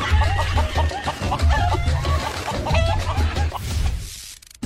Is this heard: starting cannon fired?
no